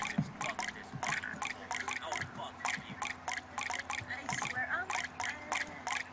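Rapid, irregular water drips plink one after another from two faucets, the first emitting 16 drops and the second 15, fairly crisp, with a steady low background hum beneath them; no one speaks over the dripping.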